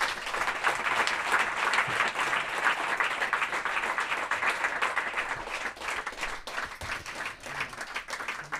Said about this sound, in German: dafür bitte ich jetzt um einen sehr, sehr kräftigen Applaus.